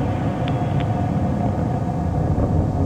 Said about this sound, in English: Main engine and verniers are looking good. On through Mach 1.